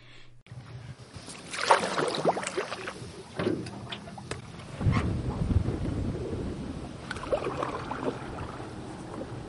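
Paddling an aluminum canoe on a river: irregular splashing paddle strokes and hollow metallic knocks against the hull, over a steady wash of moving water, with no voices.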